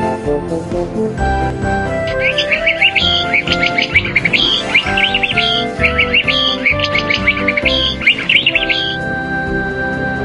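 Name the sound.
canary singing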